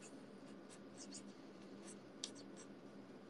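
A black Mackee (McKee) marker pen squeaks and scratches across a surface in short, irregular strokes as a message is written, fairly quiet, with a soft steady background hum.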